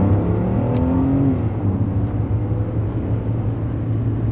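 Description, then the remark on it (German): A car engine runs steadily, a low rumbling hum with a slight shift in pitch as the car stops, turns and drives back the way it came, continuous throughout with no voices. “Und als ob sie der Geschichte eine Wendung geben wollte, stoppte sie ihren Wagen, drehte und fuhr den Weg zurück, den sie gekommen waren.”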